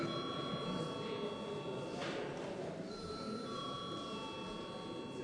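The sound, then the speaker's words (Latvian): A steady electronic bell or buzzer in a parliament chamber, called for before a vote on a bill's first reading, rings continuously for several seconds, its bright, sustained tones shifting slightly in pitch partway through, over a low murmur of voices. “Paldies, lūdzu zvanu.”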